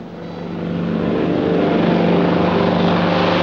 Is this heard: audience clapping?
no